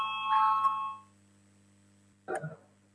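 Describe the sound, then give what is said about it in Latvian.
A single electronic chime of a parliamentary voting bell rings out clearly for about a second before a vote on a transport minister's proposal, its tone holding steady before fading, followed after a short pause by a brief muffled thump or vocal sound over a low hum. “Lūdzu zvanu balsosim par desmito satiksmes ministra Linkaita priekšlikumu.”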